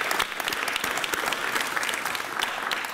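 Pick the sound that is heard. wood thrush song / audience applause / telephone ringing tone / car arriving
audience applause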